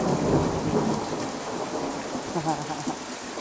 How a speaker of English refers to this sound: It is 4:50 in the morning, and the thunderstorm I have been waiting for.